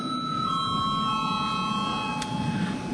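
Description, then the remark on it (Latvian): A parliament chamber bell, rung after debate is closed to call a vote on appointing the head of the Financial Intelligence Service, rings out as a steady, continuous electronic tone with several bright overtones, holding unbroken for three seconds over a low murmur of background voices and shuffling. “Debates slēdzu. Lūdzu zvanu.”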